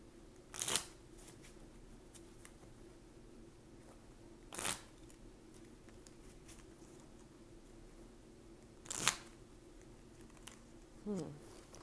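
Tarot cards are shuffled for a collective tarot reading in three short, crisp riffling bursts spaced about four seconds apart, separated by quiet stretches with a faint steady hum underneath.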